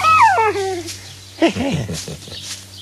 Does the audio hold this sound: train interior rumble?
no